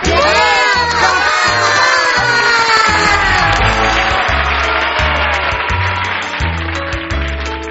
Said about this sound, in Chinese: 请大家鼓掌，谢谢5年5班的小侦探们。